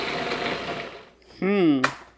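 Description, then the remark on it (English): A kitchen blender whirs steadily as it blends herbs into pesto, a dense, fairly loud grinding hum that stops after about a second, followed by a short voiced sound from a person. “Okay, it's turning into pesto.”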